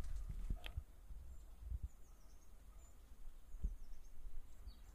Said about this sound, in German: Ja, also ich habe jetzt eine Kohlmeise gehört zum Beispiel. Sind aber auch Blaumeisen dabei und also Meisen sind überhaupt Vögel, die gerne im Winter auch in unseren Gärten vorkommen